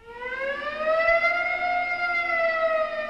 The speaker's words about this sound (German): Es gab natürlich andere Geräusche, die dazu kamen, also im 19. Jahrhundert die Sirenen der Fabriken, die signalisierten einfach, wann ist Schichtwechsel, nichts anderes als ein quasi automatisiertes Horn, so eine Sirene.